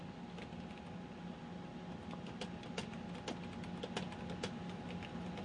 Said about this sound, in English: I'm just typing a message to him now. I'm sure he'll respond shortly.